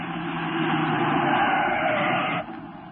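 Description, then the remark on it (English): A car engine roars loudly and steadily for a couple of seconds, then drops off abruptly as the car, driven by the Green Hornet after he jumped out of a stopped truck, speeds away too fast for pursuing troopers. No voices are heard. “You troopers, after that car. It's going too fast.”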